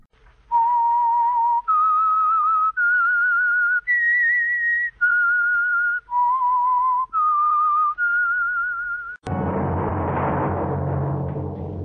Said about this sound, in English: That whistle is your signal for the Whistler.